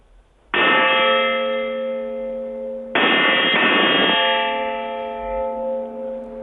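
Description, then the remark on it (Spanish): A large church bell, broken for four years and now repaired by welding, is struck twice on the welded area, each blow ringing out with a bright metallic clang and a long, shimmering hum of overtones that sustains and slowly fades. No voices. “Entonces, yo ahora sí que os puedo dar, y además voy a golpear sobre la zona soldada, para que vosotros me podáis comentar el tema.”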